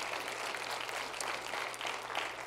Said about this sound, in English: Why don't you give the Lord one big round of applause?